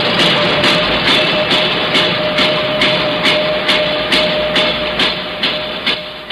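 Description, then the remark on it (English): Loud construction noise from building the new Coliseum at Columbus Circle, three blocks away: a steady, rapid pounding repeats about three times a second over a dense mechanical roar and a constant droning hum, with no voices. “Thursday, construction begins on the new Coliseum at Columbus Circle, three blocks away.”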